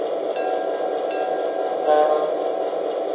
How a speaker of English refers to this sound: We're lying to the siding. Try to get the rear of our train clear of the main, okay, buddy?